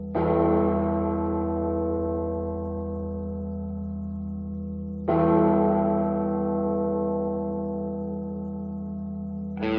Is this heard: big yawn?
no